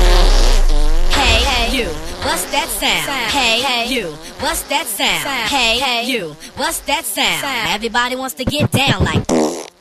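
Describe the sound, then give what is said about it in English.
A long, loud run of flatulence noises, brassy and buzzing, with pitch that wobbles and slides up and down, broken into short bursts toward the end. “Bad smelly gas problems.”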